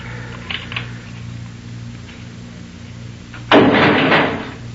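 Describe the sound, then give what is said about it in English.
A heavy metal jail door slams shut with a sudden loud clank, followed by a brief rattling resonance, over a steady low mechanical hum and a couple of faint earlier clicks. “Close it.”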